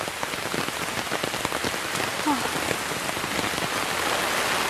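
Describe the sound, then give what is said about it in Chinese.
Steady rain patters on the ground of a mountain trail outdoors, a dense, even hiss of drops with scattered individual taps, continuous throughout with no voices. “看这里很漂亮的，很凉快，回去的时候衣服肯定全部都湿了。”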